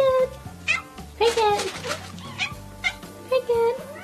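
A cat makes several short, clipped "ack" calls instead of a normal meow, coming in irregular bursts, with soft background sounds underneath.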